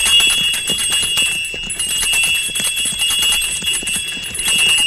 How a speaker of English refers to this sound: Now I'll ring the bells and attract a little attention.